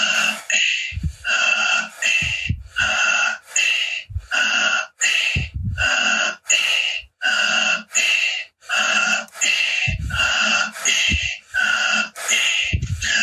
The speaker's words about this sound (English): It's kind of like a high pressure in your body, but you will see after you were relaxed totally, keep on breathing deeply in, letting go, deeply in, letting go, deeply in. Letting go.